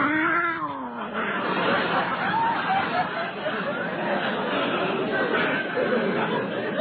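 cat yowling

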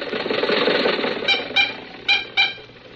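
car engine

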